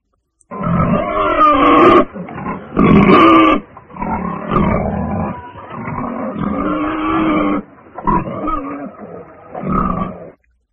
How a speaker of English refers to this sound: I hear a pig.